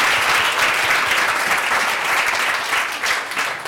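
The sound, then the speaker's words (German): An audience at an award ceremony applauds the nominees on stage steadily for a few seconds, a dense, even wash of many hands clapping at a fairly loud, constant level with no voices standing out. “Also ein kleiner Applaus jetzt.”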